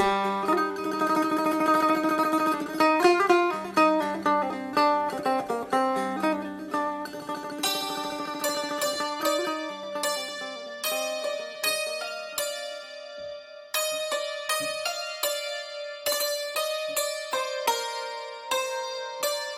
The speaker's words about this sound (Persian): تار و تنبور را میشنوین از رادیو دری، همچنان با ما همراه باشید.